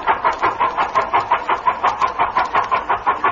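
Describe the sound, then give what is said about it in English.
The motor of Bill Green's Dynaflow car purrs steadily, its rapid, even putt-putt pulses repeating about five times a second with no voices over it. “Listen to that motor purr.”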